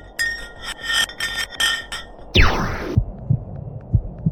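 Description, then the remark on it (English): An ice block plunging down a deep borehole: rhythmic ringing, buzzy pulses, then a loud swooping tone that drops from high to low pitch, ending in soft, low heartbeat-like thuds. “The pitches changed over the quick descent of the block of ice, ranging from high pitch and ending with a low heartbeat-like sound.”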